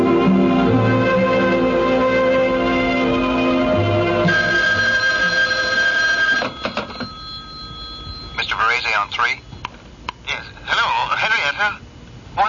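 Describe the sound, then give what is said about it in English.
A telephone rings with a steady electronic trill for about six seconds before falling quiet, followed by a muffled voice speaking, as if heard down the line. “Get me my husband on the phone, will you? Yeah, I'll put it through from my desk.”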